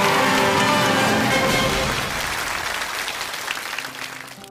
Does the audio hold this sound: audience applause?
yes